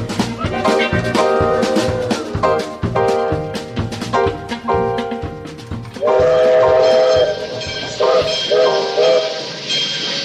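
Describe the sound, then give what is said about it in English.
A train rumbles along the tracks with a steady rhythmic clatter of wheels, then a loud, sustained horn blares over the rolling noise in the second half. “Say goodbyes to this here train, Banjo, and I'll say hellos to where we are, which is Chocolate Holler if its welcome sign ain't a liar.”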